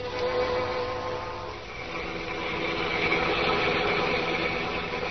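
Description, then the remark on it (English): A car engine on the drive home from a late party: a steady engine drone runs throughout, a dense rumbling hum with a tonal whine layered on top, holding an even loudness with a slight dip and swell midway. No one speaks. “She's in a car now, on her way home from a late party.”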